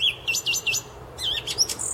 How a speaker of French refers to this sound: Le chant d'une grive lors d'une promenade au parc Montboissier qui rappela à Chateaubriand toute son enfance et le remit à l'ouvrage.